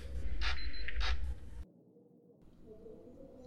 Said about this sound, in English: Okay, please follow me. This way, not far now. Here it is. Let me open that door.